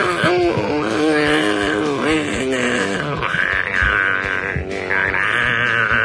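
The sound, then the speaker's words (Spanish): A baby cries loudly and continuously, its wavering wails rising and falling over a dense wash of distorted, noisy sound for the whole stretch. “¿Eso es una banda de Noise o un bebé llorando?”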